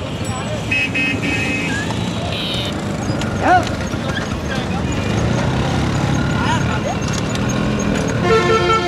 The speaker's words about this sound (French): Pour reposer vos porteurs, vous allez sur cette charrette qui hoquette avec cet âne malheureux qui vous tire vers le fleuve, vers le miracle de l'eau.